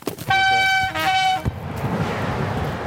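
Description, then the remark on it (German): A train horn sounds two loud blasts, one long and one short, then the roar of the train rushing past a few metres from bushes beside the tracks takes over and continues steadily to the end. “An dem Gebüsch, in dem sich die afghanischen Männer vor der Polizei verstecken, donnern wenige Meter entfernt immer wieder Züge vorbei.”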